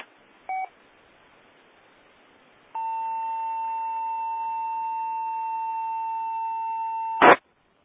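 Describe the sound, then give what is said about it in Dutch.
On an amateur radio net, a brief two-tone blip, then a long steady mid-pitched beep holds for about four and a half seconds over faint hiss before ending in a sharp burst of noise. No one speaks. “Ja, ik hoor wel een pieptoon, maar daar blijft het ook bij.”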